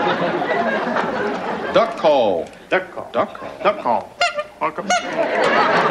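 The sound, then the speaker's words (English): A duck call gives a run of loud, nasal quacking honks in quick uneven bursts, with a busy murmur of voices and chatter underneath. “Duck call.”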